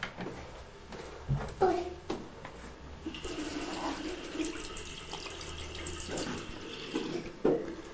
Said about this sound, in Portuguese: Está lavado da gato, não é? Passou-lhe vagamente a água por cima para ganhar anticorpos.